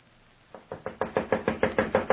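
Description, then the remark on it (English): A rapid series of about ten sharp knocks on a door after 8 o'clock at night, evenly spaced and growing steadily louder, with no voices. “Philomel, answer it. It's after 8 o'clock.”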